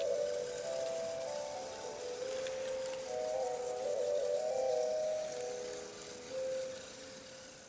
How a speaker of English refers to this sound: You're listening to a little train that's running over tracks, black tracks that we drew, and encountering little dabs of color. And as it runs over the colors, it plays a different note every single time.